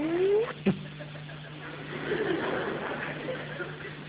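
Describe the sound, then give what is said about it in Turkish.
A voice imitates a car engine: a brief rising whine at the start, a sharp click, then a steady, rough droning rumble that carries on at moderate volume until the end. “Yani bir araba sesi yaparak bütün bunları bok etmenin manası yok ki.”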